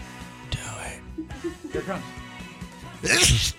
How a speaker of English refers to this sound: You might as well say, I've got to sneeze again.